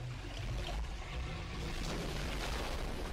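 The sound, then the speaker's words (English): Water drains away with a steady rushing flow and a deep rumbling gurgle underneath, continuous and fairly loud throughout, with no voices. “Look what you did. The water's going down. It's going down.”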